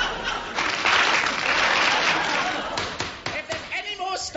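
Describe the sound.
A burst of applause from a crowd of women in a courtroom: dense, loud clapping for about three seconds, then fading into scattered claps as voices begin to speak.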